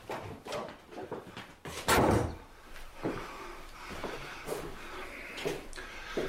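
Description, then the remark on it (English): A father shuts a door on other people with a solid, fairly loud thump, followed by quieter shuffling and small knocks in a simple room with a low background hum. “Her father looks round at the simple room, at her sitting immobile in her chair, then shuts the door on the others.”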